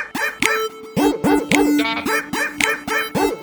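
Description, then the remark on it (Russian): Dogs in a yard bark in a rapid, steady series of loud yaps, about a dozen in a few seconds, with a brief higher whine partway through and no talking. “У меня во дворе даже лают собаки.”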